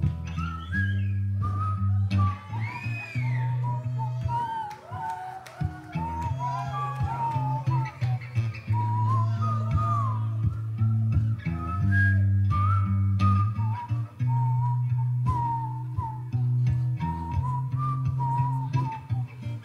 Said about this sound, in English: Whistling.